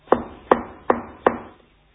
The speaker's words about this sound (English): Do you hear? Can you feel the knock? Can you hear the knock?